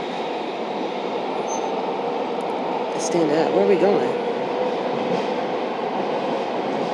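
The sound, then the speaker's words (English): A steady, low rumble of a moving, crowded train fills the whole recording, dense and continuous, with a brief voice speaking near the middle over the constant roar. “If it wasn't so many people on this train, I'm telling you, I'd take you right now.”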